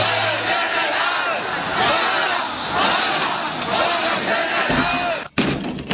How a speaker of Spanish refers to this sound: Pero hay gente en la calle y grita.